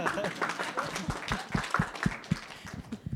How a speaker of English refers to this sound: Oh yeah, you should clap for him.